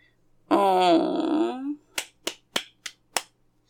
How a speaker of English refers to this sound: You like that slut? Me slapping my big cock on your face?